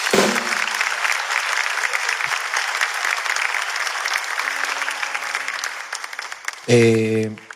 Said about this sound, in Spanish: ¿Quieren aplaudir? Apláudanlo, apláudanlo, apláudanlo.